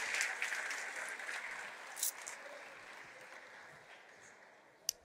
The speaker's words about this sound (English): Won't you give the Lord a hand clap of praise as you take your seats?